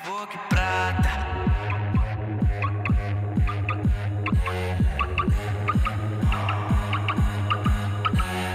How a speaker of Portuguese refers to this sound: E o remix usa muito a parte do bip bip do alarme, né?